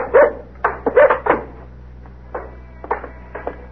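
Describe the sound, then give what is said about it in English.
A dog barks, first in a quick burst of four or five loud barks, then a few softer, scattered barks and yips after a short pause. No one speaks. “He's a nice dog.”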